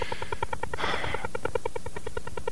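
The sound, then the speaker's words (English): A shortwave signal from a Soviet over-the-horizon radar pulses in a fast, steady tapping rhythm, about ten beats per second, loud and continuous. A brief wash of static hiss swells in the middle, and no one speaks. “But I've studied it in depth, and I'm pretty convinced that it's an over-the-horizon radar, which was designed to track airplanes and ships, I think.”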